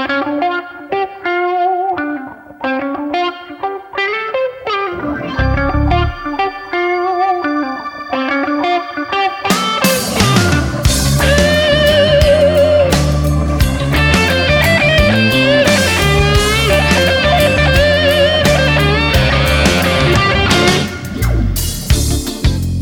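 A blues song from a second album released in 2001 opens with a lone, effect-laden electric guitar playing bending melodic lines, then the full band crashes in with drums and bass, loud and driving, for the rest of the passage.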